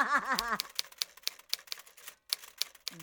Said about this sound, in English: you can stop the typewriter thing now.